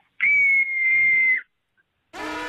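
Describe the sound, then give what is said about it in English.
A radio listener's cabin fever scream from Altoona: one long, shrill scream held at a steady high pitch for over a second, thin and almost whistle-like, then a short silence before a new buzzy, harmonic sound starts. “this is my cabin fever scream.”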